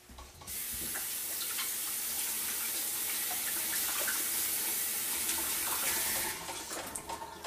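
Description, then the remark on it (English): A faucet runs in a steady, hissing stream for about six seconds, the rushing water broken by soft splashes and clatter as a vegetable is rinsed under it to wash off dirt, then it shuts off. “Got any dirt on it, just rinse that off.”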